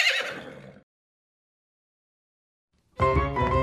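A horse whinnies sharply, a high, shaky neigh that falls away within a second. After a short silence, another loud, harmonically rich burst of sound kicks in.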